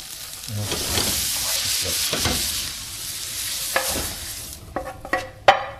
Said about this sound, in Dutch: En ik heb het dus zonder boter dit, of zonder vetolie, in een anti-aanbaklaag. Omdat die toch al een beetje gemarineerd was. Zacht vuur, die een leuk kleurtje krijgt en begint te geuren. Hij is lekker bruin.